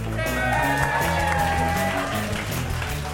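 A crowd applauds and cheers steadily for about three seconds for an audience member called up to the stage, a dense wash of clapping that stays loud throughout, with some music or tonal sound running underneath.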